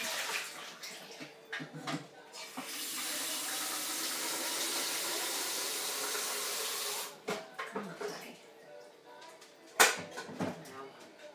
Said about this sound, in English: I'm just going to fill up the Tassimo now because it's probably got enough water, but I like to put it fresh.